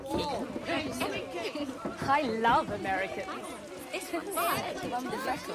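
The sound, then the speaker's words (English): An excited crowd of American GIs at an army camp in the rain chatters all at once around a bus full of blonde women, many overlapping voices calling out in a continuous, lively babble with a few louder shouts rising above. “In the rain, GIs crowd excitedly round a bus full of blondes.”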